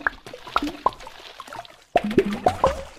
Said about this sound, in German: Also du startest das Spiel, schaust auf eine ruhige, hübsche Wasseroberfläche und klickst dann irgendwo hin. Es macht plopp und im Wasser türmt sich ein kleines Häuschen auf.